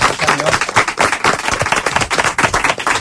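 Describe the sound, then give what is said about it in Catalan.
A burst of steady applause from many hands, a dense, loud clatter of claps that carries evenly through the whole stretch without pausing. “Ole, un aplaudiment, perquè...”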